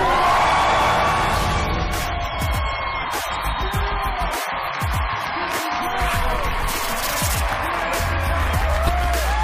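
A large crowd at New York Comic Con cheers in a steady, dense roar, with high whoops and shouts rising out of the noise across the whole stretch, as a performer is welcomed on stage.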